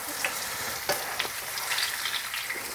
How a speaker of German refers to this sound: Also ich habe Marshmallows, glaube ich, noch nie in Fett reingeschmissen.